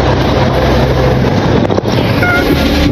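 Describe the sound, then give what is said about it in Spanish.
A go-fast speedboat engine drones steadily over rushing water, with heavy wind buffeting the microphone throughout and a brief dip around the middle. “conocen quiénes son las personas que saben conducir una lancha go fast que puede salir, conocen quiénes tienen las lanchas y salen desde La Guajira.”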